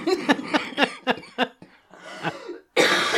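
A woman coughs in a rapid, close-up fit of about six sharp hacks, then gives a few rougher, breathier coughs, ending on a loud, harsh burst.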